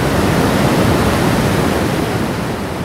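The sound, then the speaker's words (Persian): A steady, loud roar of rushing water pours on without pause, a dense wash of noise like a big waterfall, with no voices: about 2.5 million litres of water falling over Niagara Falls. “و به این ترتیب در سال 1893 از آبی که از سمت کانادا به رودخانه نیاگارا ریخته می شد برای اولین بار نیروی برق تولید کردند.”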